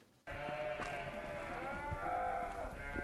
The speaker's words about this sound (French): Donc là, on les entend, les moutons, ils sont pas loin ? Ils sont pas loin, oui. On peut aller les voir si vous voulez. Là, vous les avez mis au chaud pour l'hiver ?